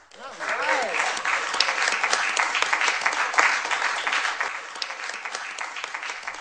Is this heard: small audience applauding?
yes